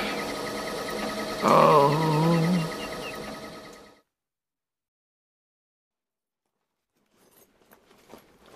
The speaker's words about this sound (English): Now, when I turns on the scratter, you'll see it reduces them apples to a pulp in seconds. He said the scratter will pulp the apples.